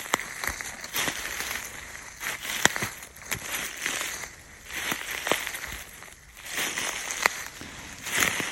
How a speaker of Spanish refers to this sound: El bosque ya cubierto con algunas hojas. Sí, ya con las primeras hojas que ya van cayendo. En concreto estamos sobre un robledal. El sonido de las hojas del roble. Pisadas que nos llevan a poder inventar historias